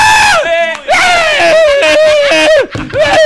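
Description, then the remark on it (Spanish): A loud bingo audience erupts in excited shouting and screaming as the number B9 is called, several voices yelling together in bursts with brief dips, energetic. “No grite, señor. Que no grite, ¿eh?”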